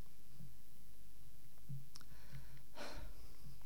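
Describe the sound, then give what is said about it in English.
A short, breathy gasp for air, part of a song's arrangement, rises near the end of an otherwise quiet stretch, with faint soft clicks and low rumbling around it and no talking. “And as you listen to the song, you can hear the sound of gasping for breath up to his last, and then the silence.”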